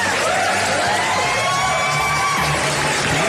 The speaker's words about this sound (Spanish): Es como muy temprano en la semana para estar aplaudiendo de la gente.